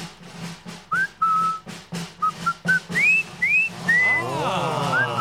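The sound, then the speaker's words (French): Someone whistles a halting tune of short, bright notes, several sliding upward, over a steady rhythmic pulse of background beats and a busy, noisy backdrop. “ils savent pas siffler”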